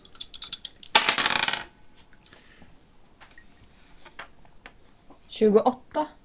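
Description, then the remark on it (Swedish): Dice rattle in a loud, dense burst as they are rolled on a player's turn in a game, then scatter into a few light clicks and taps as they settle, with brief voice sounds near the end. “Jag är bra på att slå tärningar.”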